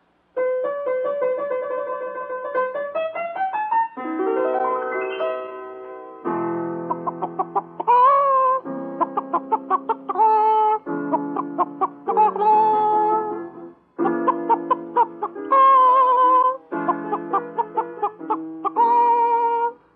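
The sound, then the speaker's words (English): A hen's clucking strung into a sung melody, a singing contestant performing an aria titled Les Filles de Chicken, with bursts of loud, rhythmic clucks and rising squawking tones that carry on steadily for the whole stretch. “Now, our first contestant is Miss Henrietta Hen, who will sing an aria entitled Les Filles de Chicken, n'est-ce pas?”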